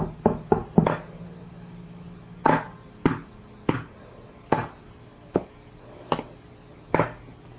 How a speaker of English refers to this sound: It's good for banging. There. Yeah! Good job! He's playing the drum!